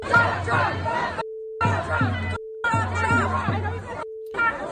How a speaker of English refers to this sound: And then a crowd at a Democrat gathering yelling about President Trump.